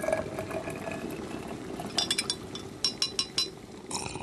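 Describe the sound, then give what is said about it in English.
A spoon clinks against a cup while tea is made, a few sharp taps then a quick run of clinks, over a steady low hiss of liquid. “I can boil the kettle and have a cuppa now, I console myself.”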